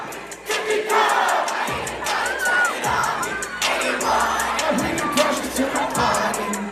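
Hundreds of kids shout along loudly and continuously to a hip-hop song, their massed voices forming a dense, excited roar over a thumping bass beat that keeps pulsing underneath.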